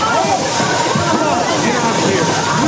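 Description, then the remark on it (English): A ceiling fire sprinkler head in an office break room gushes water, set off by a burning paper towel held up to it, in a loud, steady, hissing rush that fills the whole stretch without pause, with faint indistinct voices buried underneath. “As flames lick its metal spokes, water gushes out”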